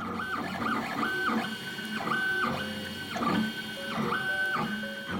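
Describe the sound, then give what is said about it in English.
A 3D printer hums steadily as it works, its motors whining in tones that step up and down in pitch every second or so, with faint mechanical rattling underneath and no voices. “A few flashing lights and a low hum, and suddenly you have a scale model of the Eiffel Tower made out of plastic.”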